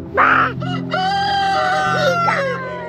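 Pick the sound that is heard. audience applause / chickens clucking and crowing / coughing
chickens clucking and crowing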